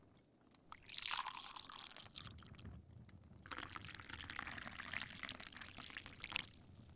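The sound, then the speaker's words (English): Liquid pours steadily into a glass in two continuous streams with a brief pause between them, a bright trickling splash rising and settling, with no talking. “Drink?”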